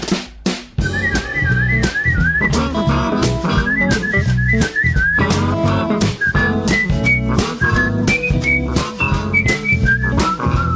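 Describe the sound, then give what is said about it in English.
A street busker whistles a bright, wavering melody, carried over a steady, loud accompaniment of rhythmic strums and thumping beats, with no talking. “He does a lot of mouth stuff, and whistling.”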